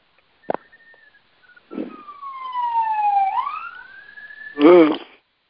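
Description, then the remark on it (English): A police car siren wails, its tone sliding down and then sweeping back up, ending in a short loud warbling burst, heard on its own without talking. “Police sirens.”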